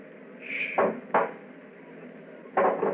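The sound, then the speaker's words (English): A door lock being worked open: a brief high squeak followed by three sharp clicks and clunks spaced irregularly over a low, steady background hum, with no voices. “It's at the door. Get ready. It's opening the lock.”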